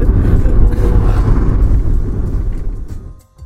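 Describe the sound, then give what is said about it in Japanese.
A steady, heavy low rumble of road and engine noise fills the cabin of a moving white-and-blue taxi, holding constant before easing off and quieting near the end. “あの車内からすると普通なんですけど、はい、これ外から見ればめちゃめちゃ目立つ車に乗ってるんですよ。”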